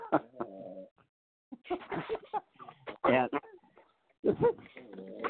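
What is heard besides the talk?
dog snoring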